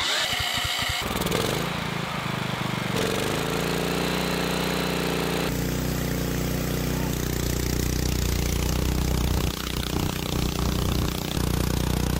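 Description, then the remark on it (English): A gasoline engine rated at about 10,000 watts roars at full throttle during a 30-minute test run before being mounted in a car: a loud, steady, buzzing drone with a low harmonic hum and a raspy high-end hiss. The tone shifts a few times early on, then holds throughout with no talking. “I'm gonna start it up real quick and give it a 30-minute test run at full throttle and then mount this in the car.”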